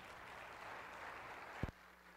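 A church audience at a Mother's Day service claps steadily in a dense, even wash of applause as a guest speaker comes to the pulpit, with a brief low thump near the end before the clapping tapers off.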